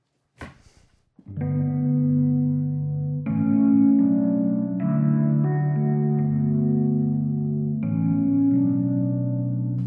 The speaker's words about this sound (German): Das scheint ein Ping-Pong-Delay zu sein. Jawohl. Und jetzt haben wir auch noch Reverb.